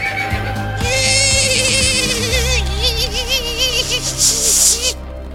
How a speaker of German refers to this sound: Ein bremsendes Pferd war das.